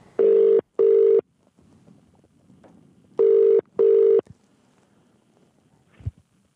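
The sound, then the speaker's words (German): An outgoing phone call's ringback tone purrs in two double pulses, a steady buzzing tone repeated twice, with a pause between pairs and a faint click near the end; no one speaks. “Ich hoffe, er hebt ab. Plätti, du versuchst es mal für uns, ihn zu erreichen.”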